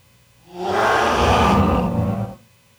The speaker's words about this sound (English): Oh, that sounded so weird. I only got a portion of that dragon roar.